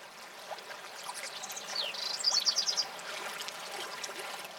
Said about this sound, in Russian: Слышишь, Иолай, в Аркадских горах птицы звонче поют.